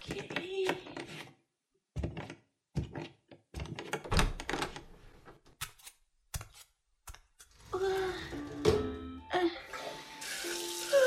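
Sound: shower water running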